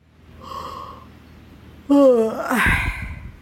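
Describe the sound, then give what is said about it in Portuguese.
A person gives a loud, drawn-out yawn, a voiced groan that slides downward and trails off into a breathy exhale, preceded by a faint soft hum. “Ficou então de pé, mas como estava cansado, bocejou.”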